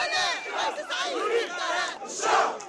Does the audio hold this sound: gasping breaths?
no